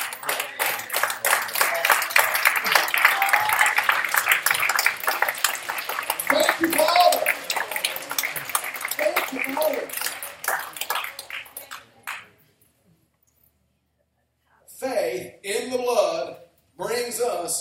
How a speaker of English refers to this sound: We ought to just stand up and give a clap offering to God for his goodness, that he would love us so much to make it that easy.